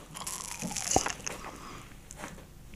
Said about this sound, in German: so ein bisschen ASMR-Schmatze hier reinbekomme ins Mic